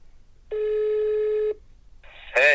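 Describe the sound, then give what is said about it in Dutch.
A phone call placed from a studio connecting: one steady, buzzy ringing tone holds for about a second, then after a short gap a brief higher tone and a louder, harsh burst as the line picks up. “Oké, ik bel hem erbij.”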